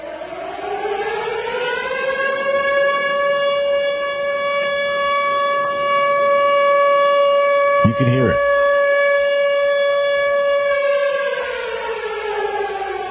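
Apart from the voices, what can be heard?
warning sirens wailing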